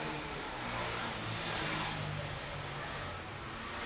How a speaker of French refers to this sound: Moto.